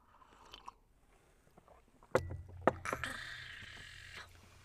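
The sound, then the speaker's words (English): Ceramic mugs of coffee clink together two or three times in a toast, followed by a faint lingering ring and soft handling and sipping noises, with no talking. “I'm gonna take a sip of coffee.”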